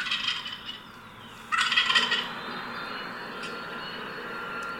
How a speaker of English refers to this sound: It's not hunting season yet. I was just scouting. I took my video camera and just sat there in the middle of a field all by myself listening for turkeys. And here is what happened.